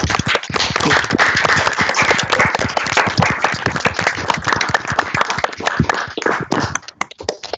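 Dense, sustained applause from many participants of an online barcamp over open microphones, steady clapping filling the whole stretch with a slightly compressed quality before thinning out and tapering off at the end.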